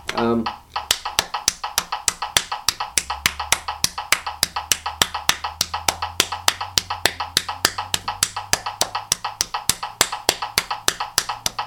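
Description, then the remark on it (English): Hands pat steadily on a lap instead of clapping, in a quick, even rhythm of roughly four crisp taps per second, continuing without pause after a brief vocal sound at the start, with a faint low hum beneath. “All right, now I changed to doing it on my lap, from clapping to do it on my lap, so it's a different technique.”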